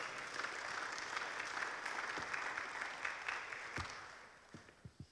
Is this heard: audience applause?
yes